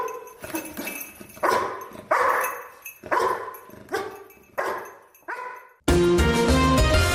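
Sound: rescue dog barking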